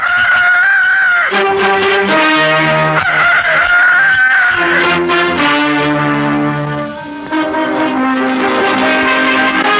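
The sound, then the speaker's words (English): A rooster crows loudly in long, drawn-out calls against a dense layer of sustained tones and chiming sounds, with no talking. “Out of your throat's arsenal, hurl your sound grenades, O Cockerel. Proclaim the morning.”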